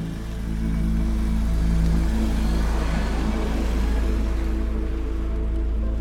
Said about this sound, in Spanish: Comencé a manejar sin toparme con ningún otro carro. La lluvia golpeaba el parabrisas.